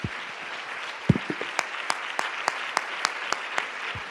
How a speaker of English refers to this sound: Come on, let's practice like we did at the first building. This is how you clap your hands.